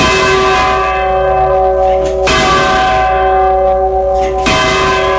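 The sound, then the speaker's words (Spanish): Large church tower bells ring loudly, three heavy strikes about two seconds apart, each one's rich metallic hum carrying over into the next. “Y entonces, por la oída de las campanas, se orientaban y al toque, o sea, al sonido de las campanas, acudían al pueblo.”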